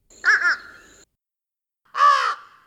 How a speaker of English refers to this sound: Have another listen for a few seconds to the fish crow's basic two-note call, followed by the basic one-note call of the American crow.